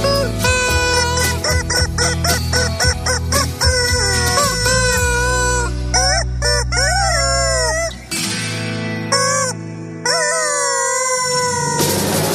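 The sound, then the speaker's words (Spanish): A rubber chicken toy squeaks loudly and nearly nonstop, with quick honking bursts and longer wailing, bending squeals over a steady low backing. No one talks. “Sí, señor, viva el pollito de goma que nos ha servido para abrir la segunda hora de transmisión de este programa radial.”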